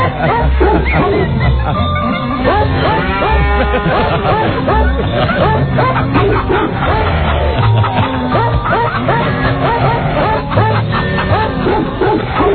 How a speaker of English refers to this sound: The cow says.